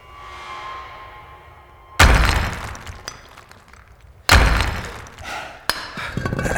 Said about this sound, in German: Wir brauchen einen schweren Gegenstand, um die Wand einzuschlagen.